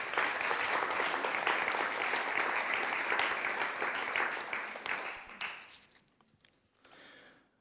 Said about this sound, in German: Geben wir mir doch einen herzlichen Applaus.